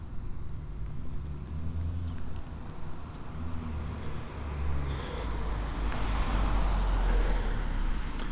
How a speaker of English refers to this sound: There comes a car.